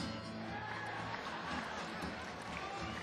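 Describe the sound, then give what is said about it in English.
A rock concert crowd roars and cheers steadily throughout, a dense, continuous wash of many voices and noise that holds at an even, fairly loud level without breaks. “First of all, do it again, come on. Let's hear it, clap your hands, come on.”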